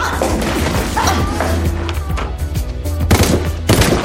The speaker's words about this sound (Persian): تیراندازی شده، کمک میخواد.